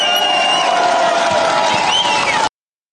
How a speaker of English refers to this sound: The fuck are the maggots cheering about?